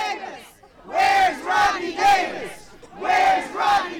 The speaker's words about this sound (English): The group marched and chanted in the cold with words like "no ban, no wall, no hate," and called for Illinois' 13th District Republican congressman to respond to Trump's immigration order.